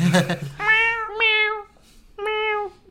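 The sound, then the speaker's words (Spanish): A person imitates a cat, voicing three drawn-out, nasal meows in quick succession after a brief burst of laughter-like noise. The mimicry is clear, with short pauses between calls. “había un gato maullando”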